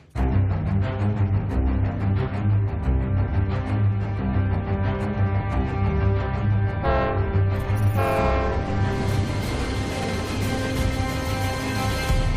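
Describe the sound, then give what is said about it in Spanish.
A train rumbles past, its horn blaring in a long sustained chord, with rising wheel and track noise toward the end. No voices. “Pasaron 2 trenes, el primero era demasiado de noche y ni siquiera se percató de que había un cuerpo en la vía, y el segundo tren es el maquinista el que lo ve, ve el cuerpo, intenta frenar, no puede”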